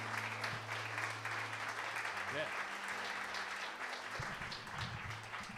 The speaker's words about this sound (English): So if you want to welcome him and give him a round of applause, and then I'll pray for him.